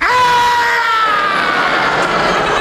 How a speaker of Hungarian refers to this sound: Szentég, mi volt ez a sikoly? Semmi. Az A épületben lakik egy fogorvos. Ő rendel otthon este 7:30.